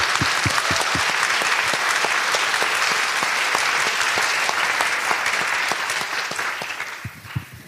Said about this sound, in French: Oui, bravo! On peut l'applaudir.